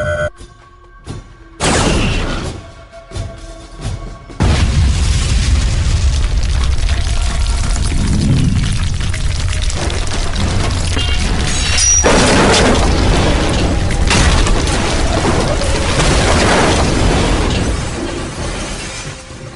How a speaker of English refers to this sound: the photon torpedo caused a landslide. The debris of the peak came crashing down, smashing two of the Valandrian aircraft and causing another to veer into the cliffside.